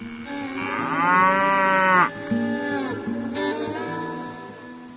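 A cow moos loudly in a long, drawn-out call, followed by a second, lower and softer moo. No one speaks.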